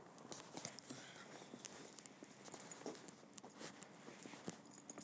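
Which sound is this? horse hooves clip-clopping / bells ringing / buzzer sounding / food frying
horse hooves clip-clopping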